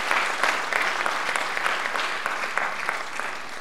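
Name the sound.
warm audience applause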